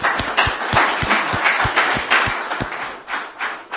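Steady audience applause, a dense wash of many hands clapping at a brisk, even rhythm, fairly loud throughout with no voices.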